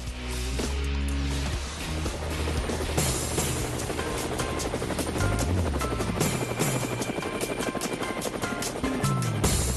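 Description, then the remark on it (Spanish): Helicopter rotor blades thump steadily and loudly throughout, a dense, continuous whirring chop with engine roar filling the whole recording, no voices present. “Bueno, las aspas del helicóptero no hemos parado en el programa de hoy, pero es así, tiene que ser así.”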